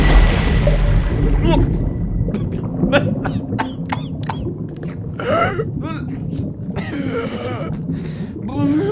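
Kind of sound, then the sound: sound effect, splash into water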